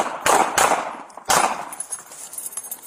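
gunshots

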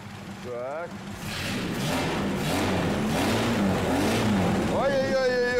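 car engine revving

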